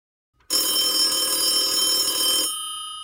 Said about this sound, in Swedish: men jeg tror rett og slett at vi bare slår på tråden og ringer til